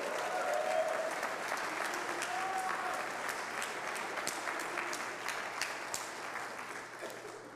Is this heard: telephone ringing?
no